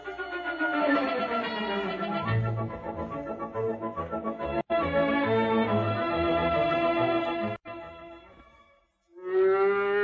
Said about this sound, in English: That's Bossy the cow.